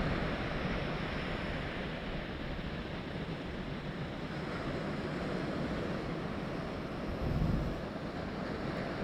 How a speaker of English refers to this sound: And with each wave you hear breaking on the shore, sense the energy that is coming from the sea.